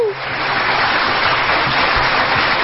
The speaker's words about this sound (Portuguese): Aplausos pra você. Vamos lá, aplausos.